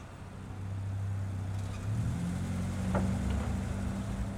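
The engine of a black Mercedes-Benz idles with a low, steady rumble, then its pitch and loudness rise as the car is brought around by a valet and pulls up. No one speaks.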